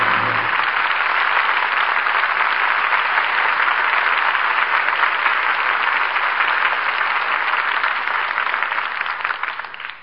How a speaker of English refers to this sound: The wagons move on. The cannon are silenced as the curtain falls on Jezebel. And we all join in applauding the artists who brought us this play tonight. Loretta Young, Brian Dunleavy, and Jeffrey Lynn.